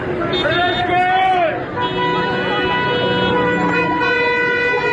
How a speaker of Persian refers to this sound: اعتراضشون مردم با بوق دارن نشون میدن.